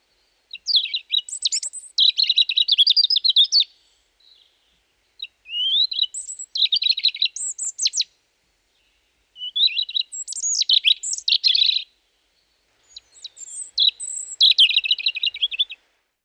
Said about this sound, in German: Rotkehlchen gehören zu den wenigen Vogelarten unserer Breiten, deren Gesang man auch an milden Wintertagen hören kann.